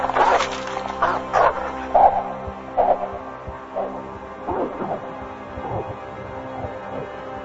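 A dog barks repeatedly in quick, irregular bursts, loud at first and gradually quieter, with a steady low hum in the background and no one speaking.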